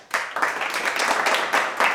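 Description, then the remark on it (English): A clapping sound effect: a burst of many hands applauding at once in a dense, steady patter that swells in a few waves over two seconds, fairly loud and with no voices. “Clapping doesn't work.”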